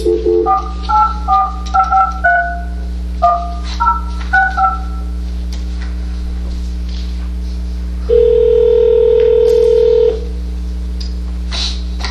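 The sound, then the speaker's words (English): A rapid series of touch-tone beeps as a phone number is dialed to call a member of the public during a Bethlehem City Council meeting, followed after a short pause by a steady, two-second telephone tone, all clear over a low electrical hum. “The first is Lynn Rothman, so I'll be giving her a call now.”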